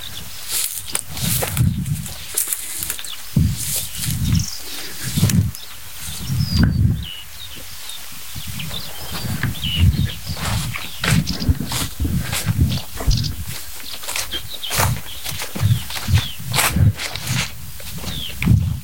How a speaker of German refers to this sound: Ja, das war nicht tipp, tick, mit diesem Klacken hinten dran. Das ist natürlich Schwarzkehlchen. Aber dahinter sind Nachtigallen. Ich schwöre.